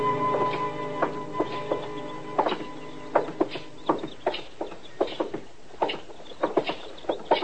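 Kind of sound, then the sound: animal, horses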